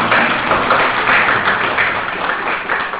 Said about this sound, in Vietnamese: Thì qua những câu hỏi quý vị đó thì tôi thấy là quý vị có tu tập trình độ hiểu biết cũng như sự nhận thức thì khoảng 80% trở lên. Cho tràng pháo tay nữa nha.